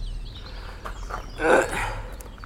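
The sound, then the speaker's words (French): A single harsh crow caw rings out loud amid a quiet background, with a fainter rasping tail right after it. “Ce n'est pas un poulet, monsieur. C'est un corbeau.”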